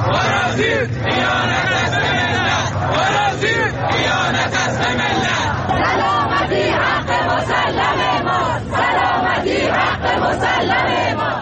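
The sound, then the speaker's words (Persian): A large crowd of protesters in Shiraz chants loudly and continuously, protesting the rumoured spread of jamming signals and demanding a clear answer from officials, many voices shouting together in rhythmic bursts over a dense roar of voices that fills the whole recording. “تعدادی از شما مخاطبان گرامی برای ما عکس و ویدیو فرستادید که در این قسمت از برنامه به قسمتی از اعتراض مردم شیراز در رابطه با انتشار پارازیت گوش میکنیم.”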